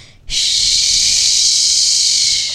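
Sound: shower water running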